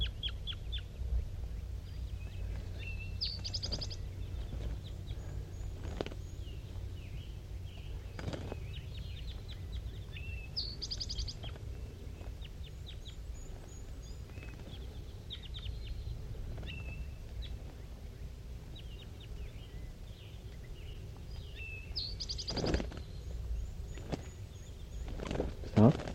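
wild birds calling softly

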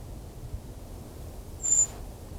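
brown creeper call

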